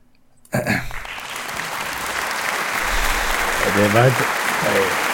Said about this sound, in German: Das war der langsamste Applaus, den ich je gehört habe.